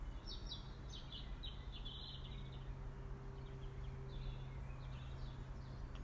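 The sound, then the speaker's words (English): A blackbird sings faintly, short repeated chirpy phrases drifting over a steady low background hum, with no one talking. “I think you can hear the blackbird.”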